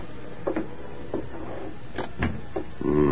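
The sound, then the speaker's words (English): The Lone Ranger pushes open the front door of a farmhouse: a few soft knocks and clicks of the latch and frame, then a low, drawn-out creak of hinges at the end. No voices. “He cautiously moved along through the tall brush, and then, with gun ready, pushed open the front door and entered.”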